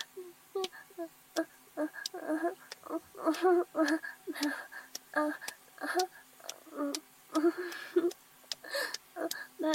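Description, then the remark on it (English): A person imitates a cat, making a steady stream of short purring and mewing vocal bursts mixed with soft clicks, with no actual words spoken. “I guess I could continue making those noises if you're into that. Yeah, I lied. I am a cat.”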